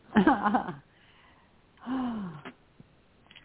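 Two deep, audible breaths: a sharp, full inhale that gasps in quickly, a pause, then a long, slower exhale trailing off into quiet.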